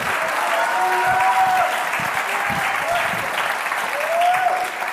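An audience, asked to clap if they believe, breaks into sustained, steady applause, a dense wash of clapping that holds at an even level for several seconds, with a few faint voices and whoops rising over it.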